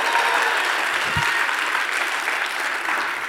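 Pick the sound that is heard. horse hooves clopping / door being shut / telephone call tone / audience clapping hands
audience clapping hands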